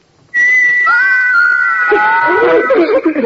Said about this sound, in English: These little carved figures can whistle. I know that. Come on, we've got to go. Wait, you can't go yet. You haven't heard my little figures whistle. Listen.